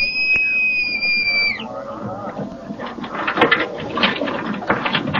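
A shrill boatswain's pipe, sounded by the bosun on the captain's order to pipe the boat, holds a single high, steady note for about a second and a half, then dips and cuts off, giving way to a busy clatter of background noise.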